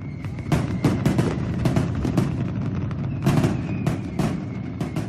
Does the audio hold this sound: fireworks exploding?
yes